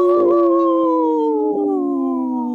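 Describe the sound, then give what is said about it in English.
A person imitates a wolf with one long, loud, sustained howl that slowly slides downward in pitch, with no other sounds. “I was gonna trying to howl and say no at the same time.”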